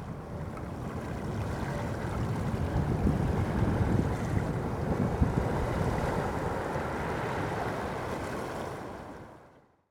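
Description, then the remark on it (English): Steady ocean surf rolls continuously with a broad, rushing roar and some wind buffeting, loud throughout before fading out at the end; no voices. “Stop your CD or MP3 player here, but keep listening to the sound of the ocean.”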